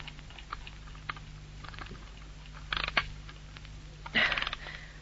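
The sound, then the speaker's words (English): Quiet, dry ticking clicks of a clock wound that morning tap along steadily, with a couple of louder clunking knocks as the clock is set down right in front of a person's face. No one speaks. “You wound that clock this morning. And you don't have to stand it right in front of my face.”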